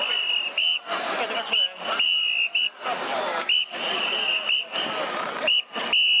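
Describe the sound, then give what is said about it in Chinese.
A police commander's whistle blows a long series of loud, sustained shrill blasts separated by brief pauses over a noisy crowd with voices, as riot and special police form lines to clear students and protesters from Taiwan's Executive Yuan compound around 5 a.m. on March 24. “经过一整夜的拉锯战，台湾行政院大院3月24日早上5点左右被警方最终清空，高压水车开始清洗地面，防暴警察和特警在长官哨子和口令的指挥下排成数列横队，拉网似的清除大院内的学生和民众。”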